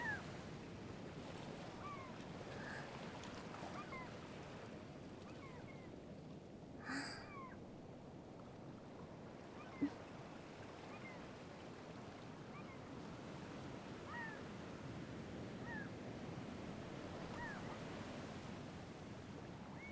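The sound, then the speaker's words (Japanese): A steady, rushing wash of surf on the shore fills the scene at moderate volume, with scattered faint high bird cries above it and no one speaking. “みんな波音が好きって言ってるし。”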